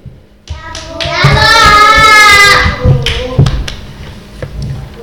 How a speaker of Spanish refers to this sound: En primer lugar tenemos a un humorista, o eso dice, que nos va a hacer reír con los chistes que él mismo ha escrito. Un aplauso para Felipe el Gracioso.